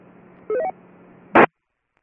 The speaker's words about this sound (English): Okay, we'll stop right there. That first station that called in, all I got was static. I didn't get your call or your name.